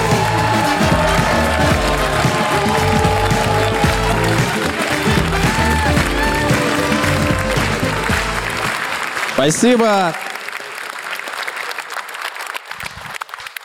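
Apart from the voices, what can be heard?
audience applause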